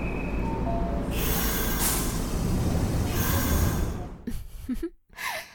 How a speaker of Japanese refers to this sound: ちょうどよく、電車が止まってくれた。